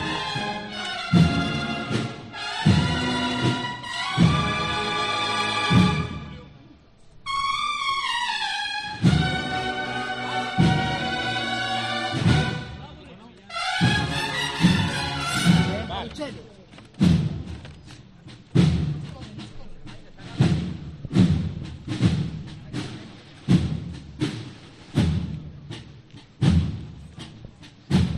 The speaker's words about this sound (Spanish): Ese sonido ambiente con la banda sonando.